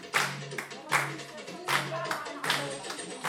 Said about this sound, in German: Irgendwann bildet sich ein Kreis. Darin tanzt eine der Frauen, allein. Die anderen klatschen, feuern sie an.